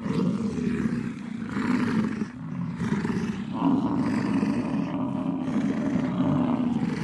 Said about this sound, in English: What we just heard there was what we call a bison fighting storm.